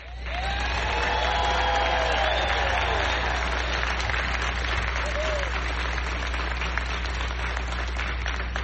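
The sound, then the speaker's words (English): Sustained applause from a large audience at an event honoring the family members of Katherine Johnson, steady and loud throughout, with a few whoops and cheers rising over the dense clapping and a low hum beneath. “I want to start by thanking the families of, and I'd like you to give a big round of applause for each of these members I'm about to mention, the family members of Katherine Johnson.”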